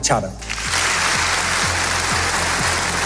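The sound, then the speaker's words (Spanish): A large crowd applauds at the 2025 Nobel Peace Prize ceremony in Oslo City Hall, where the prize for María Corina Machado is accepted on her behalf, a dense, steady wash of clapping that swells in after a brief opening sound and holds loud and even to the end. “Los aplausos han sido constantes en la ceremonia celebrada en el Ayuntamiento de Oslo, un acto que ha estado presidido por la foto de Corina, pero marcado por su ausencia.”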